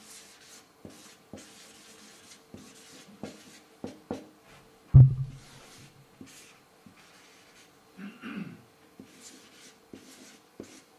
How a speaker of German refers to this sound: Ich schreibe das einmal auf, weil das ist ein wichtiger Punkt.